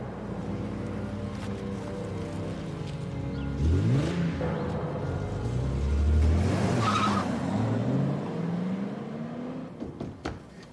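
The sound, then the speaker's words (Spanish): A red sports car's engine revs and pulls away as a kidnapper drives off with a forced-in hostage, its pitch climbing in repeated surges as it accelerates, with a brief squeal of tires partway through. No one speaks. “El secuestrador la obligó a entrar al auto y salir de allí.”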